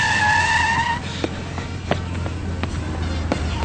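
A car skids with a sharp, high tire squeal for about a second, then its engine rumbles on steadily, with a few brief knocks and clicks.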